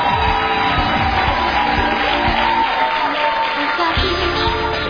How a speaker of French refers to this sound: Et en partenariat avec l'UNESCO, sous vos applaudissements, bienvenue à tous.